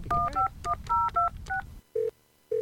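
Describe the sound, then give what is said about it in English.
A rapid string of about eight dual-tone keypad beeps as a cell phone number is dialed to call an enrolled agent who does tax preparation, followed by two short ringing tones on the line. “I need to make a quick phone call.”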